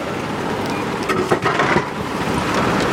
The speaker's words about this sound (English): And let's move away, because there was an idling truck next to the machine.